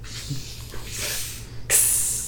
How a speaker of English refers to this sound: He's letting out a fart. Yeah. I should get that checked. It sounds very bubbly.